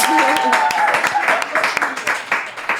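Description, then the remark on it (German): A small group claps and applauds for about three seconds, dense and irregular, with a few voices calling out over the clapping at the start. “Es waren ungefähr 12 Klatscher zu viel, aber.”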